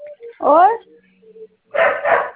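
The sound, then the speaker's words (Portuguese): A dog barks, a sharp whining bark followed after a pause by a couple of louder, rougher barks in quick succession, with a voice faintly present. “Por causa do cachorro que tá latindo.”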